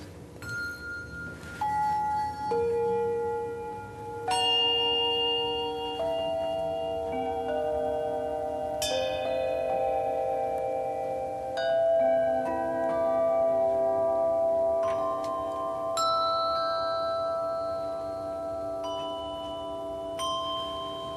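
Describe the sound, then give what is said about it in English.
Two players strike bells together in a loose duet, one on bells and the other on instruments hung from the ceiling, ringing tones overlapping and sustaining as new notes enter every few seconds, with no talking, moderately loud throughout. “Okay, I'll play the bells over here, and you can play the ceiling instruments.”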